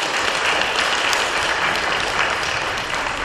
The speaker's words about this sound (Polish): Brawa dla dziewczyn, należą im się.